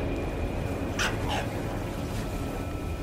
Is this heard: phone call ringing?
no